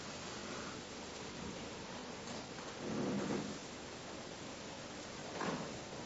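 Steady, dense rainfall hisses evenly throughout, with two brief low rumbles swelling beneath it like thunder. No one speaks.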